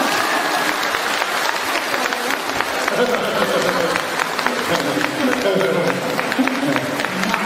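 A crowd claps steadily for several seconds, a dense, even patter of many hands that holds at a constant loudness without pausing. Faint voices murmur underneath.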